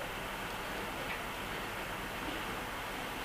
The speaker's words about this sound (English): So, it's raining out. It's raining out? Oh, yeah. Torrential downpour.